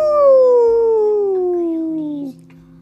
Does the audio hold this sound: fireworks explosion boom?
no